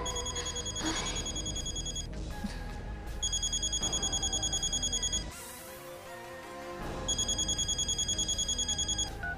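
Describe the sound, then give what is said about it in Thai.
A telephone rings in repeated bursts of bright, rapidly trilling bell tones, loud, with short pauses between rings over a busy background. “ช่วยรับโทรศัพท์หน่อยเถอะ”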